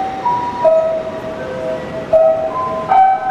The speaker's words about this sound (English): That was the traditional chimes that go off every day in Tokyo at 5 p.m.